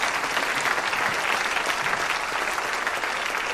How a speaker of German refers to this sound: Ich finde, das ist auch nochmal ein Applaus wert.